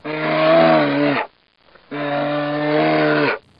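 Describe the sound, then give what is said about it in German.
A bear growls twice, each a long, loud, deep drawn-out roar lasting over a second, separated by a brief pause, with no talking. “Bären.”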